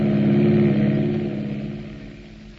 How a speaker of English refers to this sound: 1,200, 1,500, and the plane thunders along the tree-bordered portion of the runway. 1,700, 1,800, 1,900. The wheels come off the ground, spinning like circular tops. The plane is airborne now.